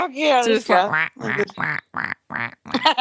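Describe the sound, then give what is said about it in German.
A person imitates a duck, letting out a rapid series of nasal, bursting quacks, about seven in a row with short gaps, loud. “Ja, quack, kannst du nicht machen, weil du hast keinen Schnabel.”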